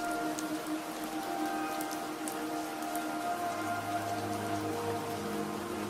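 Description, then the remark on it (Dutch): Steady rain patters on a roof and windows, a dense, continuous hiss of drops with occasional sharper taps of raindrops softly against the glass, even in level, with a faint low hum beneath. “En terwijl je daar zo zit, luister je naar het geluid van de regen dat op het dak en de ramen valt.”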